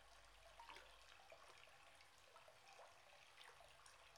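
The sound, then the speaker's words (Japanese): Water gently sloshes and splashes in a bathtub of hot water as someone soaks in it, with a few soft ripples and drips spread across a quiet, steady background. No one speaks. “最近シャワーだけだったからさ、こうしてお湯に浸かると普段からもっとちゃんと浸からないとダメだなって思うわ。”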